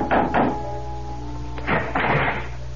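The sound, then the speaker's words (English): Knocking on the wooden door of a house at dusk: two quick raps, a pause, then another few knocks, solid, over a faint steady background hum. “dusk was beginning to fall when, exhausted, famished, and dirty from the road, I knocked on the door of the Adams house”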